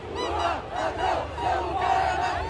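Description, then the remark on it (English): A large crowd of Bolsonaro supporters at Brazil's 200th Independence Day celebrations, by the military fort at the end of Copacabana Beach, shouts a rhythmic chant in unison, "Lula, thief, your place is in prison", the massed voices rising and falling in repeated phrases with a dense, roaring texture throughout. “Now they're shouting, "Lula, thief, your place is in prison."”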